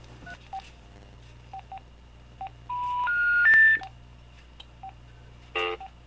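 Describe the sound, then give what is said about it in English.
Short telephone keypad tones beep one after another at an uneven pace as someone dials a phone call, with a longer stepped run of rising tones in the middle, all over a steady low electrical hum and no talking. “So I'm gonna call.”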